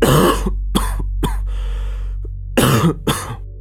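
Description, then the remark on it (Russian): A prolonged, painful coughing fit: a run of harsh coughs, a strained wheezing gasp for breath, then two more racking coughs, loud and with no talking. “Дышать становилось тяжело, и задыхаясь, я разрывался в затяжном и больном кашле, который все накатывал новой и новой волной.”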